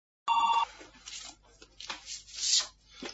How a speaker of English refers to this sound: Sorry. The phone is driving me crazy.